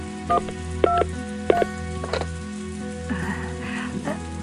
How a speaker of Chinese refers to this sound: 我来打电话。